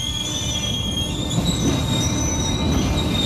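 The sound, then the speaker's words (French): A night train rolls along the rails with a steady low rumble and a continuous high metallic squeal from the wheels, fairly loud, with no voices. “Le train ne marque que quelques minutes d'arrêt, le temps que la vingtaine de passagers descendent.”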